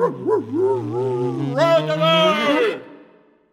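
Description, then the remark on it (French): A single loud dog howl wavers in pitch before rising into a long, sustained wail that fades out after about three seconds. “Qui peut dire après quoi en ont les chiens qui hurlent à la lune?”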